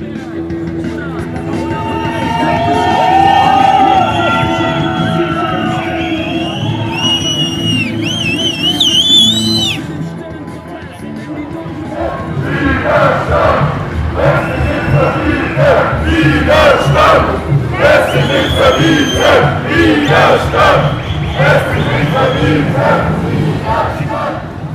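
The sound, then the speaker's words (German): A loud street demonstration with music, escorted by several vans and a line of police, moving along Hechinger Straße and over the Blaue Brücke toward Karlstraße: a crowd chants over music, first with sustained tonal melody and shrill high notes, then rhythmic bursts of shouting and beats that keep pulsing steadily. “In Begleitung von mehreren Kastenwägen und einem Spalier der Polizei zog die Demonstration lautstark und von Musik begleitet über die Hechinger Straße und die Blaue Brücke Richtung Karlstraße.”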